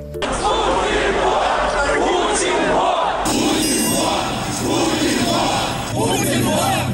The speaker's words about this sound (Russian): Уже в 2011 году, во время протестов против фальсификации на выборах, Алексей Навальный придумал кричалку «Путин вор», которую радостно поддержал народ на митинге.